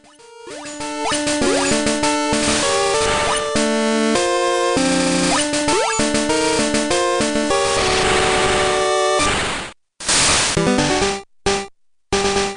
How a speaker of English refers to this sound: Oh, this slaps, baby. This slaps so hard. So, why is the original Pokemon Red and Blue intro playing on your airwaves right now?